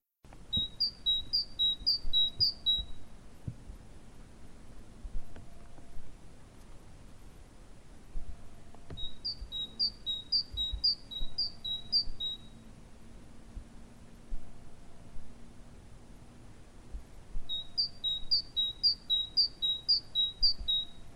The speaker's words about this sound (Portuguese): Aliás, o nome chapim é ele próprio uma onomatopeica, porque o canto do chapim real é exatamente chapim, chapim, chapim, como vamos ouvir. Vamos então ouvir.